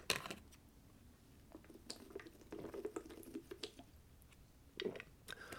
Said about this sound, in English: Let me take a sip of Fiji water.